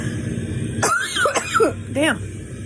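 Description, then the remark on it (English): A person coughs in a few harsh, raspy bursts spread over a couple of seconds, with a steady low background hum underneath. “Now I'm coughing.”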